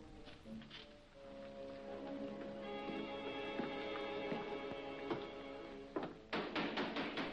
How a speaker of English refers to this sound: Who knocks at the temple door in the proper manner? Worshipful master, it is a candidate who asks to be received as a mason if he is judged to be fit.